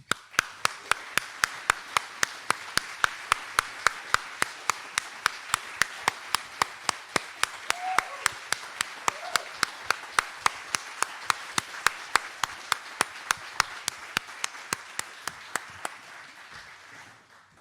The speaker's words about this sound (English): Please stand up, all the volunteers, and receive a round of applause.